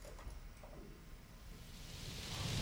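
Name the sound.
rain falling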